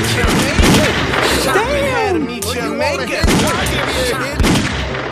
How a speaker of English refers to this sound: Bang. Oh, fuck. He shot me fast.